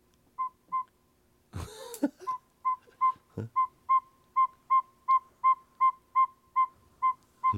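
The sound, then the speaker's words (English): A northern saw-whet owl gives a long, steady series of short, evenly spaced whistled toots, clear, briefly interrupted by a couple of loud rustling thumps near the start. “Yeah, we've got a saw-whet owl song. Let's listen.”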